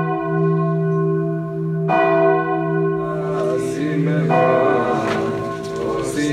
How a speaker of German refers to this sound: Gesänge in einer Synagoge, das Läuten der Kirchglocken oder das Gebet in der Moschee.